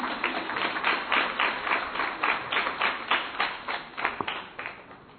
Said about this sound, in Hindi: ताली बजाओ ना मेरे लिए।